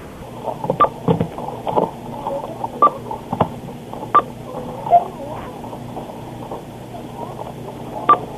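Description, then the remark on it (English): Short electronic cash register beeps repeat at irregular intervals, heard through a tinny telephone line with the phone held right next to the register, with faint background clatter and murmur, no clear speech. “I like how she put the phone right next to the beepy thing.”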